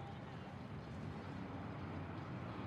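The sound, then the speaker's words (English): Cars passing at night along the narrow streets of a city block in Bensonhurst, Brooklyn, make a steady, continuous low rumble and hiss of traffic, with an even level throughout and no single pass standing out. “At night, cars pass along the narrow streets of a city block, Bensonhurst, Brooklyn.”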